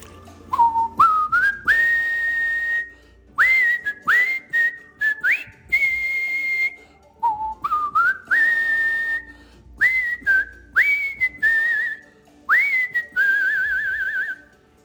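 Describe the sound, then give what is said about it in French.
Someone whistles the theme tune of the old TV show CHiPs, a bright melody with rising notes that slide upward and hold, repeating the same phrase twice in bursty, breathy bursts with short pauses between. “Et il me demande de siffler Chips.”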